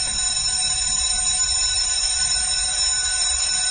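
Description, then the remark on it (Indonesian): An electric school dismissal bell rings continuously at the end of the school day with a loud, steady metallic buzz that holds without pause for several seconds, with no voices present. “bel pulang sekolah berbunyi.”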